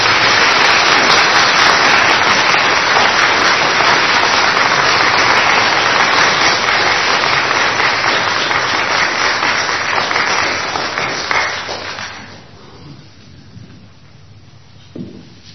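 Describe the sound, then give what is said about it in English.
A crowd applauds loudly and steadily, a dense wash of many hands clapping for about twelve seconds before it thins out and fades into quiet. “Let's give an applause to these people.”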